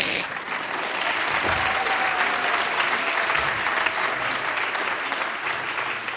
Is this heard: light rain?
no